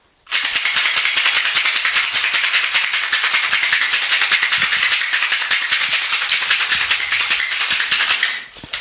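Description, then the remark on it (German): A cocktail shaker rattles hard and fast for about eight seconds, ice clattering in a dense, steady, bright rhythm before it stops abruptly. No one speaks. “schüttel das mal kurz.”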